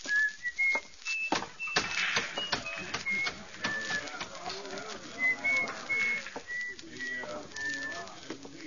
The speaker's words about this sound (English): On a sunny day, you could see him walking down the shady side of the street, whistling and handling the oddments in his little pocket.